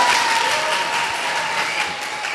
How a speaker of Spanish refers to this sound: Muchas felicidades, un fuerte aplauso para Sauces Llorones.